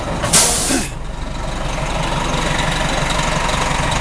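A loud burst of air brake hiss from a bus stopping for passengers to get off, about half a second long, followed by the steady low rumble of the idling engine with no talking.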